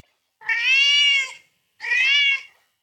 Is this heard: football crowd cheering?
no